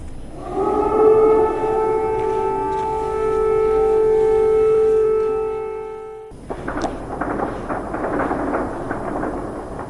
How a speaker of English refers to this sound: In the capital, Kiev, residents woke up to air raid sirens this morning.